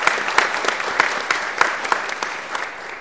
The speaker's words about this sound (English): we just want to give them a big round of applause this morning.